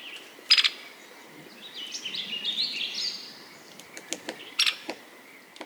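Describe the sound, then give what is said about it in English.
Black-backed woodpecker calls: two sharp, loud, harsh notes a few seconds apart, with a softer chattering run and scattered clicks between them, against a quiet outdoor background. “Black-backed woodpeckers move into burned forests in the first few months after a fire.”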